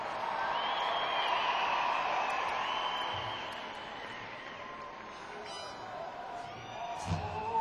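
audience cheering and applauding

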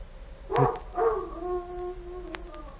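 dog howling

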